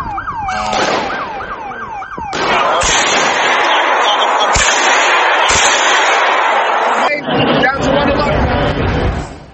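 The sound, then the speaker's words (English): A rising, wailing siren-like sound gives way to loud, chaotic noise punctuated by a few sharp gunshot bangs, fired into the air at uneven intervals by a man at a church front door, with people shouting throughout as they run away and hide. “Suddenly, there were a couple of loud bangs. People started running away, terrified, hiding behind cars and trees.”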